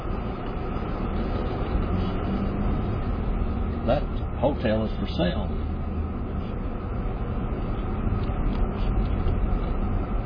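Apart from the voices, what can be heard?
car driving slowly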